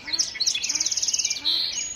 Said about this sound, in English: dawn chorus of the song sparrows, common yellowthroats, American robins, and red-winged blackbirds